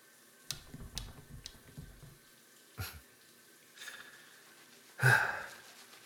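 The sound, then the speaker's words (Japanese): Wet, squelching hand sounds of body soap being worked by hand into a thick white foam: a run of soft slippery squishes and clicks, then a few scattered splashy strokes ending in one louder wet burst. No one speaks. “よし、ほら、泡立て完成。”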